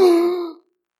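A sudden collective gasp from a group of people, a short voiced intake that swells at once and fades out within about half a second, followed by silence.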